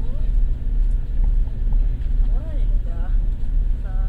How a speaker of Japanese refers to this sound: それでは間もなく浅草寺裏駐車場へと入ってまいります。少々こちらバスバックして駐車場にお止めいたしますので、しっかりと止まりますまでお待ちくださいませ。